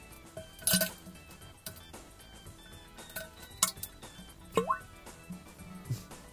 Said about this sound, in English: And I'm pretty sure I have recorded myself taking a crap, but here is a recent bowel movement of mine. This is really me. It always starts off with a fart. Listen to that.